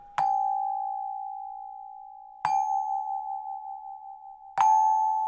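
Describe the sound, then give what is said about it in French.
A single homemade chime is struck three times at steady intervals, each clear metallic tone ringing on and sustaining into the next strike, fairly loud, with no voices. “C'est un carillon, tout bête, sauf que”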